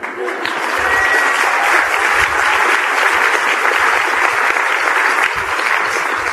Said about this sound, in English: Well, Robert, that's almost 1,000 people clapping as you are there in Toronto.